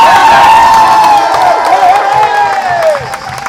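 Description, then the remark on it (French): A loud crowd cheers and applauds steadily in an ovation for the second-place finishers on a podium, with overlapping shouts and whoops and continuous clapping filling the whole stretch. “on va quand même d'abord faire une ovation aux deuxièmes et après aux gagnants.”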